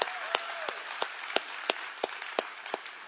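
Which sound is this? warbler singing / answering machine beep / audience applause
audience applause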